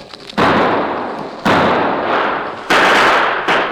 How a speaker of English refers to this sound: The killers rushed forward, pouring deadly gunfire into the blanket-wrapped figures.